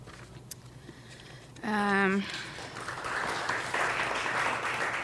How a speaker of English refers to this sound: You guys aren't listening. Don't clap.